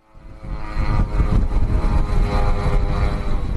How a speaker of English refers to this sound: When Russian drones swarm over Kyiv, their sound is unmistakable and it's nerve-wracking.